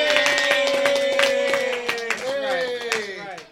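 A stretch of quick, uneven hand clapping from several people, with voices cheering and whooping loudly over it the whole time.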